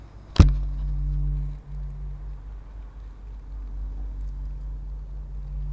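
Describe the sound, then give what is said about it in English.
A single sharp metallic strike gongs a 2-foot aluminum Edmund Scientific parabolic dish, followed by a low, humming ring that sustains for about a second before fading into a steady low rumble. “And I'm about to gong my aluminum 2-foot Edmund Scientific parabola.”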